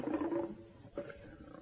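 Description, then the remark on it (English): A lion's deep, rumbling roar fills the moment, loud, swelling at the start, dipping briefly, then surging again in a second gruff burst with no talking. “do you think it's a lion?”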